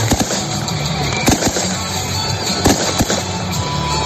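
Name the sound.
fireworks rockets exploding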